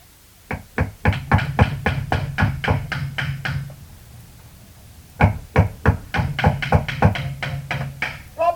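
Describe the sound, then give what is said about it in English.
Two long runs of rapid, loud, evenly spaced knocks on a wooden front door, separated by a brief quiet pause; the hollow, resonant thuds could easily pass for steady hammering. “I couldn't tell if it was someone knocking on the front door or my hammering.”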